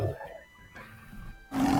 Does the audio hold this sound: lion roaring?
yes